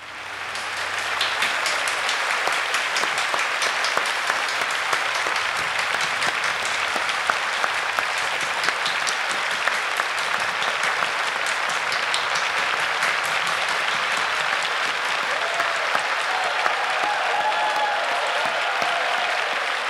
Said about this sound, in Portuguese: Muito obrigado, Bibi Ferreira. Viva Bibi! Aplausos em cena aberta para Bibi Ferreira.